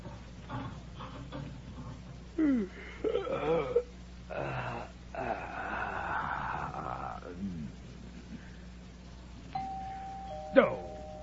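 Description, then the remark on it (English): Wheezy, snore-like breathing and rumbling noises fill most of the stretch, then the doorbell of a home rings near the end, a clear, steady electric tone followed by a sharp chime. “I knew it. Doorbell's ringing!”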